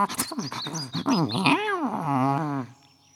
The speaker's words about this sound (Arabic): ما لك يا قط؟ مياو مياو. ربما يريد أن يأكل.